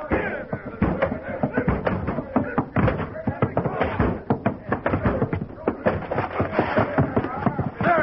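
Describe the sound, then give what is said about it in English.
A door being broken down: rapid, repeated heavy thuds and cracking blows, loud and irregular for the whole stretch, with men's voices mixed in underneath. “Break that door down.”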